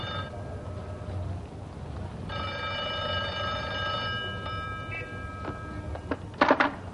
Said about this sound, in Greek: Το τηλέφωνο χτύπησε 2 φορές. Το σήκωσε αμέσως.